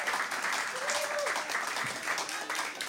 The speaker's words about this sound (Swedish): Förlåt, kan vi bara ge en varm applåd